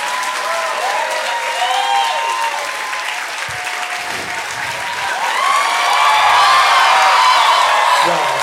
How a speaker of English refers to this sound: I know this isn't how these are supposed to work, but this is like a save Tinkerbell moment right now. Could you like clap a little if you even liked it?